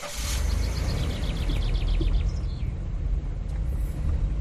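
A car's engine rumbles low and steady as it drives on a warm June 20 evening around 8 p.m., with a quick series of high, chirping bird calls over the drone in the first few seconds. No one speaks.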